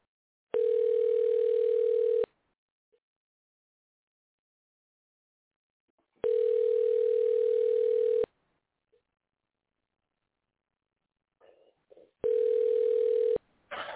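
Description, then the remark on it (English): Telephone ringback tone from an outgoing call placed during JB's Lock It In show: three steady, loud, mid-pitched tones of about two seconds each, separated by roughly four seconds of silence, with faint clicks and rustling near the end. “Let's see if this guy will answer my phone call.”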